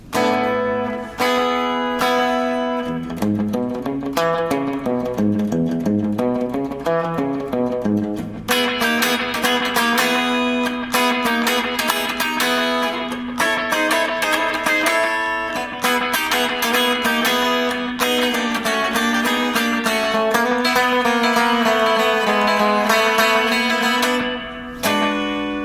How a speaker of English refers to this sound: But we didn't want to make the guitars too distorted yet, so we just added a little bit to them, and we added a little edge to them, and we add a little delay.